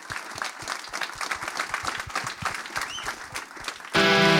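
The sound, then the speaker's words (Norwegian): Steady audience applause with many overlapping hand claps for about four seconds, then a louder burst of music abruptly takes over at the end. “Stor applaus til dem!”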